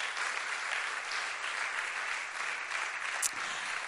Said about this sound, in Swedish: Nu ger vi en rungande applåd till de här vännerna.